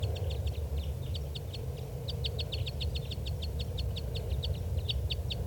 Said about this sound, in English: Okay, the playbacks are going on right now behind the tape recorder at low volume. And these are the playbacks of a different bird.